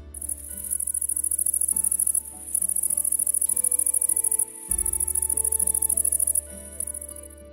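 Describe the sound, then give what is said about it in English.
Crickets chirp from the undergrowth by rubbing their wings together, in a loud, steady, high-pitched trill, pulsing rapidly in long bursts with short breaks between them, with no talking. “Instead of singing to attract a mate, crickets chirp by rubbing their wings together.”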